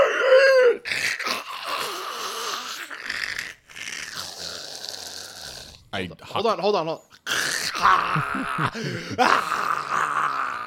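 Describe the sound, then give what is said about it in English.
A person vocalizes the shrill, wavering screech of a creature called a Tirlibobber as it is slashed down the middle with a sword, with rough groaning and growling tones sliding up and down in pitch across several loud bursts and brief pauses. “thrusting forward with your sword arm, you slash down the middle of the Tirlibobber and you see it dissipate in the middle and it let out a screech.”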